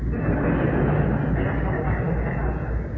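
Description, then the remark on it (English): A freight train rumbles past, a steady, heavy roar of wheels and engine that holds at the same loudness throughout, with no break or fade. “Tom Malone said his message were like freight trains, and I hear one coming.”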